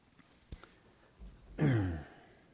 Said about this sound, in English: I'm got a little catch in my throat this morning, so if I have to cough a little bit, bear with me. Hopefully I won't have to cough too much, clear my throat.